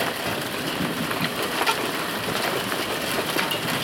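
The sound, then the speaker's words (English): Steady rain patters on an awning over a back deck, a dense, even hiss of drops with scattered sharper taps, constant in loudness throughout with no voices. “You can hear the rain hitting the awning that I'm standing under.”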